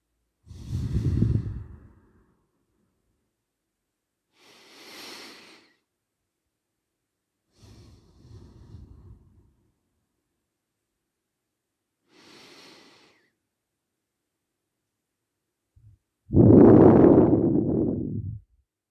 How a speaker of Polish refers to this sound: Nie zapominajmy o powolnym wyciszającym oddechu.